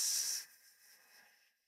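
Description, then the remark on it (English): A breath hissed out through the teeth while squeezing the pelvic floor muscles, after sipping it in through the lips and pausing: a sharp, bright hiss for about half a second, then a softer, fading airy tail. No one speaks. “So, sipping it in through the lips, pausing, and then squeezing the pelvic floor muscles to press the breath out through the teeth.”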